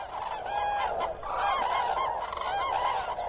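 A large autumn flock of cranes at the Biepsa river calls continuously, many bugling, trumpeting voices overlapping into a dense, steady chorus with brief higher honks rising above the mass.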